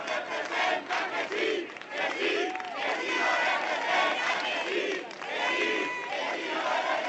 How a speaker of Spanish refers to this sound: La otra imagen de la jornada ha estado en el exterior del Congreso. Más de un centenar de afiliados y simpatizantes de Podemos han vitoreado la salida de sus diputados.